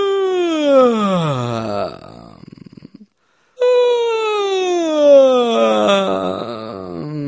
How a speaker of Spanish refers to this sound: Simplemente empieza en la parte superior de tu registro más cómodo y solo bosteza. Ahora trae ese sonido de bostezo hasta la parte inferior de tu voz de pecho hasta que llegues al chirrido vocal, como esto.